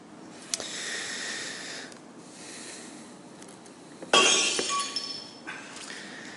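Glass smashes loudly and shatters, with bright tinkling shards ringing and scattering for a second or two before fading. A faint clink comes earlier, and no one speaks.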